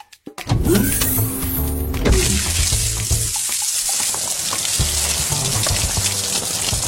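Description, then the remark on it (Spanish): A water hose sprays onto a burning house: a steady, loud rush of spraying water hisses continuously after a brief mechanical start, with a sizzling, frying-like texture and some low rumbling underneath, without speech. “¡Lo apagaré con mi manguera de agua!”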